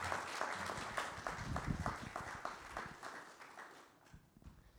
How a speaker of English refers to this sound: Let's give them a round of applause, I think.